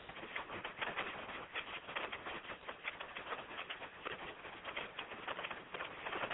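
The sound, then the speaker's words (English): Rain drums steadily on a roof, a dense, continuous patter of quick ticks and taps at an even level throughout, with no voices. “I hear the rain on your roof”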